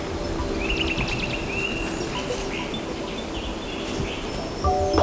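A steady, airy rush of wind through chestnut, aspen and beech leaves under a grey, overcast sky without rain fills the whole recording, with faint bird chirps and calls threading through.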